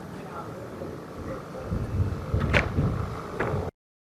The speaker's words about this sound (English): Do you hear that? There it is. Already hearing gunshots just a few seconds into stepping out of the car after arriving here at Port-au-Prince.